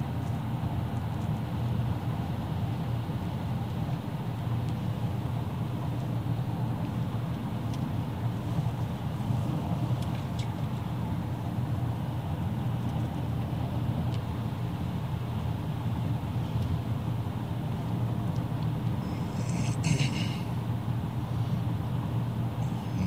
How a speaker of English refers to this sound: It's like a police car or something. No, maybe not. And just some idiot turning around on the interstate.